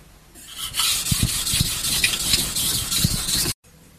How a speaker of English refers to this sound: I'm just trying to feel for a burr as the steel gets ground away. It creates a little bit kind of plastic on the edge and creates plastic deformation, which creates a little burr.